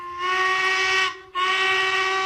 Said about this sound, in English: Do you hear that, Do-Right? The train is just over the hill.